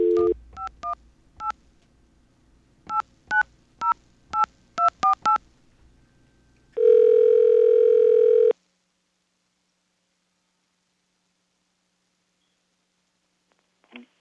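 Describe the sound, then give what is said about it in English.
A brief dial tone gives way to about a dozen touch-tone beeps punched in quick clusters, dialing a Bell Atlantic caller ID test line, then a loud steady tone holds for nearly two seconds before silence and a faint click. “Okay, we have a caller ID test, and this is a good one.”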